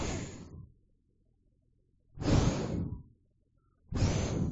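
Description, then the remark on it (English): A preacher blows three loud bursts of breath straight into a microphone while praying for people to receive the Holy Ghost, each a rough rushing whoosh lasting about a second, separated by brief near-silent pauses. No one speaks. “I'm breathing today. Lord, breathe on them.”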